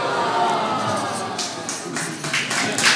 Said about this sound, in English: Oh, that one gets a round of applause.